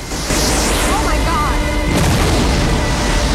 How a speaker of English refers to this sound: The burning red magma explodes in a forceful fountain and crashes onto rock like turbulent waves on the base of cliffs, sending up raging spume.